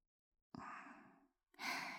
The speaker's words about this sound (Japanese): さっきからうなじにアーニーの吐息当たる。息遣い、すごく荒い。